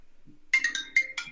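mobile phone ringtone ringing

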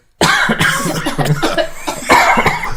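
coughing

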